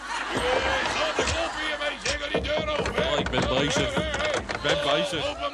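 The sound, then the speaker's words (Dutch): Someone knocks on a door several times in uneven bursts, the sharp wooden raps mixed in with overlapping voices and busy background noise. “Wordt geklopt, te groot. Ja, zo mijn Joop, die wilde weer in mijn zalm even open maken. Ja, doe die deur open”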